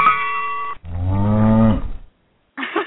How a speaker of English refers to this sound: Okay, that scared me. That scared me, but that was a cow sound right there. That is amazing. That was a cow sound, right?